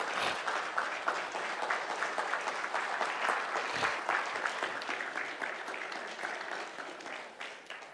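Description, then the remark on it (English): A church audience applauds steadily for several seconds after a prayer for pastors in Ghana, a dense wash of many hands clapping at an even level with no voices standing out, easing slightly toward the end. “Let's give them a round of applause and thank you for that.”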